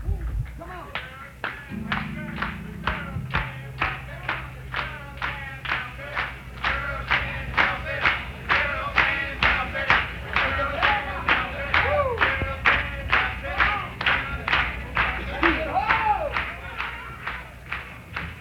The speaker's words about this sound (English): I want everybody in the audience to clap hands. Everybody.